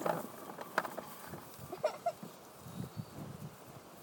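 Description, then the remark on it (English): A few faint cow calls rise briefly over a low rustling farmyard background, with scattered soft knocks and shuffles in between. “these are all cows.”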